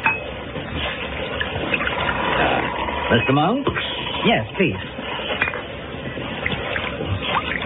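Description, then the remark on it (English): Wine trickles steadily into glasses amid soft clinks of tableware, while voices trade a brief question and reply over the pouring. “nothing was discussed except that I abstained from the wine that was served”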